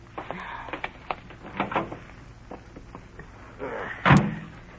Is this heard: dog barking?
no